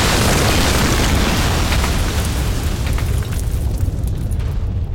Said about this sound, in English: The explosion took out the village, cleared the valley of every living thing, and was heard as far away as Halifax.